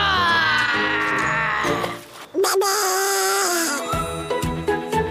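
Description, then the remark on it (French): A voice imitates a bear growling with drawn-out, moaning sounds that waver in pitch, then after a brief pause a higher sustained wail follows over a steady tonal background. “Pour être un vrai ours, il faut savoir grogner.”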